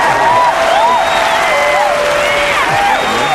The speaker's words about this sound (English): Hey, your birthday as well. That's a double round of applause.